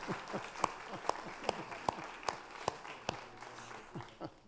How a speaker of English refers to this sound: Oh, come on, that deserves a little applause, right?